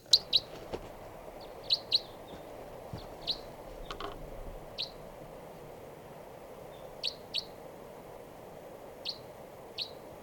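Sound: type 3 crossbill calls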